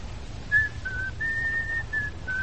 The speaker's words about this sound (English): You know, it's bad luck to whistle in the house, huh?